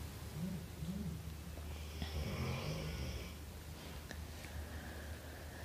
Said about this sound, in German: Ja, und das, was du im Hintergrund hörst, ist nicht das Knurren vom Wolf, sondern das Schnarchen von unserem Hund, die schon ganz entspannt da liegt, weil sie weiß, da geht keine Gefahr aus.